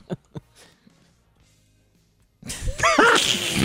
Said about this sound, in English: Hey, I heard the squeaky balloon sound, and I'm like, good.